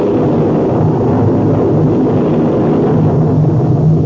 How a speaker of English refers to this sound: Professor, that is thunder. Don't make so much noise about it.